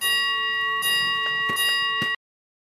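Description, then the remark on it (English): A countdown clock ticks in a steady rhythm over a sustained, bright bell-like tone, loud, with no voices, cutting off abruptly after about two seconds. “10 seconds on the clock.”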